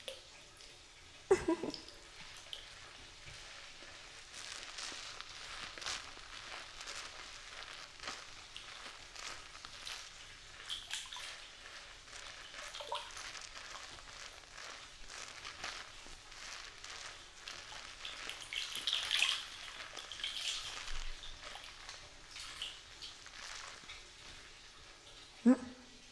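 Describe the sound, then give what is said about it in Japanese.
Shower water runs in a steady, hissing spray for the whole stretch as someone is being rinsed off, with a couple of sharp knocks near the start and end. “じゃあシャワーで流してくね。”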